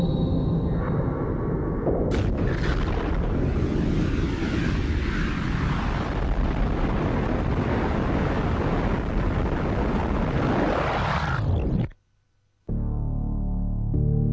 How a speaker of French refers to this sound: L'univers est venu à l'existence suite à l'explosion de ce point. Les scientifiques appellent cette explosion le Big Bang.